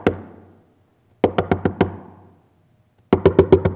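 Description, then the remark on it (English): Firm knocking on a wooden door: a single rap, then a quick burst of about five knocks, a pause, and another insistent flurry of knocks, resonant with no voices. “You are saved today because Christ came a-knocking. And he would not stop.”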